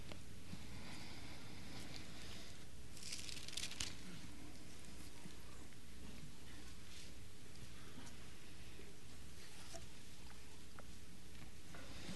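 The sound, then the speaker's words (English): Soft, steady rustling of many Bible pages being turned at once to Romans chapter 8, a faint papery patter with a few slightly louder flutters, and no one speaking. “And I'm hearing the pages turn, so I'll wait.”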